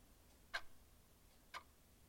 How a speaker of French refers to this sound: Dans le manoir, c'est le silence. Seule, la pendule de la grosse horloge du salon balance en émettant un clic-clic-clic régulier et lointain.